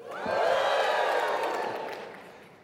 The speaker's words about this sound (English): When I introduce someone, I want you to clap. When they come up out of the water, I want you to give a cheer.